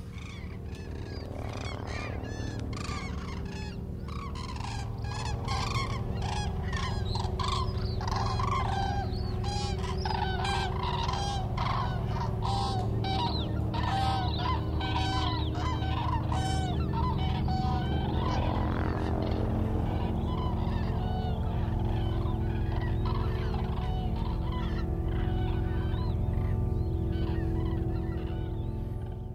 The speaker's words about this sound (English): and we're going to hear about the crane. And first we're going to hear the crane's scape.